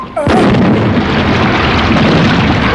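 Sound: cannon firing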